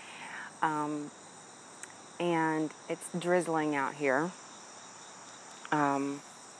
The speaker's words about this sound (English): I'm outside on our back deck, and I'm listening to all the, I think they're frogs or crickets maybe, it's hard to tell, and cicadas. We have a line of trees behind our house that are just full of sounds.